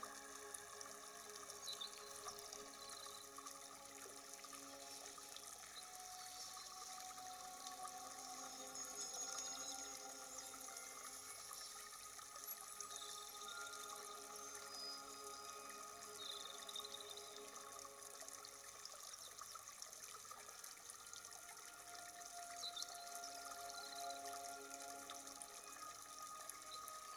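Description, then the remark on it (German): Ocean waves wash in a steady, continuous rush with only gentle swells in loudness, a broad hiss of water filling the whole stretch with no voices. “Und im gleichen Rhythmus, wie die Wellen kommen und gehen, können auch deine Gedanken kommen und gehen.”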